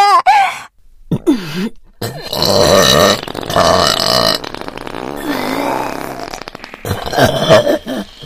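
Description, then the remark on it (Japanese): A huge, loud, drawn-out burp rumbles for several seconds, forceful, breaking into rough gurgling bursts before trailing off. No one speaks. “特大ザーメンゲップ。”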